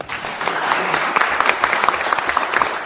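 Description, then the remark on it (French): Sustained audience applause after a speech by Jean Tullard, member of the Institut, a dense steady clatter of many hands clapping at once, fairly loud throughout with occasional sharper individual claps standing out. “Voilà, il fallait bien des applaudissements à la hauteur de l'énergie de l'orateur.”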